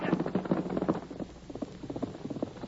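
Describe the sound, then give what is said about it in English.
A ridden horse gallops along a road in pursuit of a man, hooves in a fast, steady rhythm of dull thudding beats, moderately loud, with no voices over them. “Get going, horse. Get after him.”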